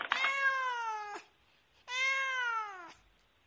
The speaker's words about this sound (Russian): Какая хорошая кися.